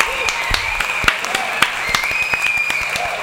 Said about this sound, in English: Clap.